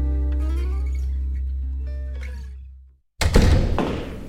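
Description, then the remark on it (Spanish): A sustained, ringing musical tone fades out into a brief silence, then a front door closes loudly, followed by a rattling clatter as the lock is turned. “¿ha cerrado bien la puerta? Dale toda su vuelta, hombre.”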